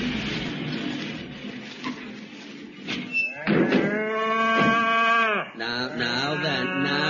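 cows mooing

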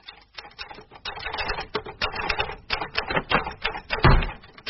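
typing on a typewriter

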